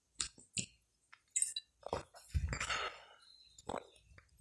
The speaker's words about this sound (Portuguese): É, tomar mais um gole d'água aqui.